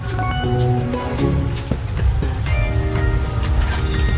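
Motorcycle engines rumble and drone past outdoors in a press parking lot among team buses, 400 meters past the finish of a cycling race. Their pitch rises and falls as they move by, over a steady wash of background noise and crowd murmur as fans walk back.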